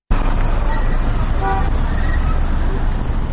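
Busy street traffic on the roads of Kabul, Afghanistan, on the second day of Eid al-Adha during a ceasefire between the Taliban and the government, rumbles steadily throughout, with a few short car horn toots around the middle over the continuous low engine noise.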